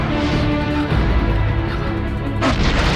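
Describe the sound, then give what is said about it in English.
A massive concrete monorail support piling, being fired at, shatters in a loud, continuous roar of crashing debris, with a sharp, booming burst of breakage near the end, overwhelming. “One piling shatters. The monorail support sways.”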